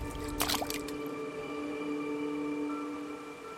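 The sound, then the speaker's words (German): A short burst of wet splashing and squishing near the start as a hand reaches into a small pond, followed by a steady hum and faint trickling in the background. “mit ihrer Hand in das Wasser greift”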